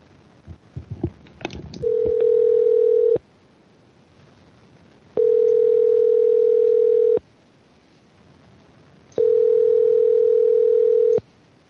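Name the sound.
telephone dial tone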